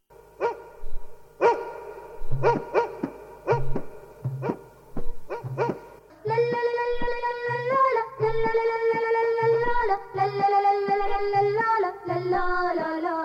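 A dog barks repeatedly, around ten sharp barks in an uneven rhythm, then the barking gives way to sustained, steady musical tones that carry on to the end.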